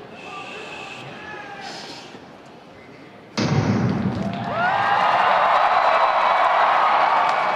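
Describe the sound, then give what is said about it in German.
A subdued murmur with a few whistles from twelve thousand spectators in an arena hall at an Olympic race event suddenly erupts into a loud, dense crowd roar that swells further and holds steady, shrill whistles rising through the din. “Zwölftausend Zuschauerinnen und Zuschauer lärmen in der Halle.”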